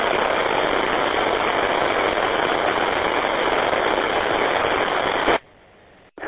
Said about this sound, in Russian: вроде шум идет, шум, треск, ну, а модуляции нету никакой. Ни телеграфа, ни USB.